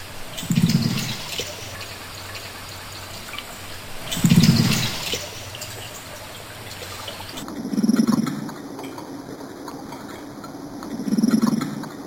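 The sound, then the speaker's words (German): A carp makes low cooing grunts underwater while chatting with another carp on a summer night, four short, soft calls spaced a few seconds apart over a steady murky background hiss, with no voices. “Plötzlich hört man immer ein Gurren wie ein Meersäule.”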